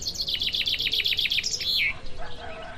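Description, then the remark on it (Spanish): A small bird sings a rapid series of about a dozen bright, repeated chirps ending in a downward slurred note, with softer twittering afterward and a faint hiss of outdoor background. “Yo escucho pajaritos, tranquilidad, qué gusto, ni llamadas, ni correos, ni nada.”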